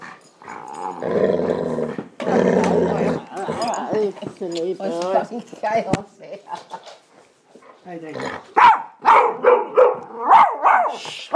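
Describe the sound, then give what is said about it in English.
Several dogs bark loudly in rapid, overlapping bursts, mixed with growls and a few higher whimpering yelps, with a human voice heard among them. “Shut up! You noisy buggers!”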